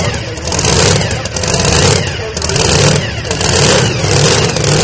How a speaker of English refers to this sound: The engines of these tractors are extremely loud. In fact, many in the audience use devices like earplugs to protect their hearing.